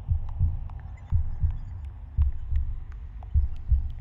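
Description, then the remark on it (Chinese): A steady heartbeat thumps at roughly one beat per second, each beat a deep, muffled lub-dub pair, with a faint hum underneath and no voices. “原来火光是从我们的心脏发出来的，闪动的瞬间就是我们心跳的频率。”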